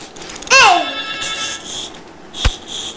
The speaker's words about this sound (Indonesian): Telepon.